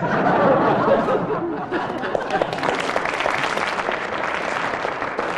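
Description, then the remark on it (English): A studio audience claps steadily for several seconds, a dense, even patter of applause mixed with some scattered laughter and murmuring from the crowd. “Having elicited a round of applause, you get a mark,”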